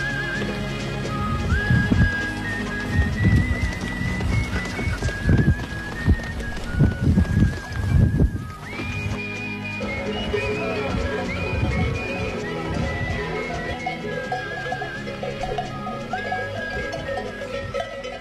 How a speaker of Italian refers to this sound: Questo è il rumore loro che camminano, no? Cioè le mucche.